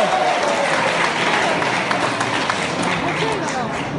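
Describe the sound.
An audience breaks into sustained applause to welcome performers Zhang Helun and Wang Heyan for the crosstalk (xiangsheng) piece 《红十会》: a dense, steady wash of many hands clapping at even loudness for several seconds, with a faint murmur of voices mixed underneath.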